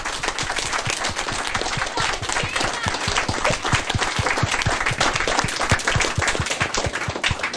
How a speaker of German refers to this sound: Auch ihr habt einen Applaus verdient.